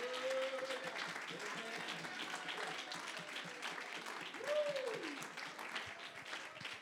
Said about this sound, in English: Somebody clap your hands while I take a drink.